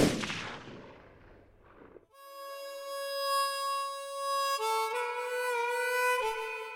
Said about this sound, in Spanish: Un último disparo. El tiro de gracia que sigue retumbando más de 30 años después.